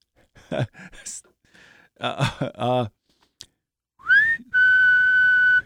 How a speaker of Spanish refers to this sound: ya puedo silbar nuevamente. Así que estoy avanzando en mi recuperación, amigos.